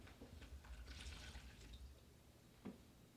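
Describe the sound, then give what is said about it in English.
Water splashes and trickles steadily for a couple of seconds as it is poured out of a cup during a cold-versus-hot water sound experiment, then a few separate drips and small splashes follow, moderately quiet. “All right, I'm going to pour this out, and then we'll do the second one.”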